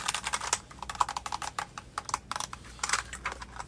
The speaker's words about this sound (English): So okay, we got this keyboard right here. It comes with white and black keycaps.